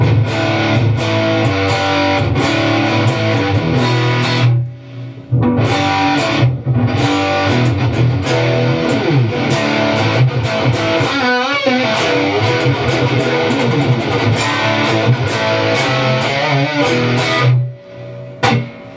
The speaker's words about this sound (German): Genau, es ist jetzt ein 5150-Profil hier gerade, was wir hören. Wo wir mehr Gain natürlich noch brauchen. Natürlich mit ein bisschen Hall drauf.